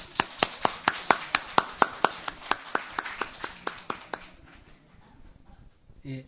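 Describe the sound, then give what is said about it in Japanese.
Steady, evenly spaced hand claps from an audience at a couple's engagement ceremony, about twenty sharp claps in quick rhythm for roughly four seconds, then they stop, leaving quiet with faint background murmur. “では拍手を持って”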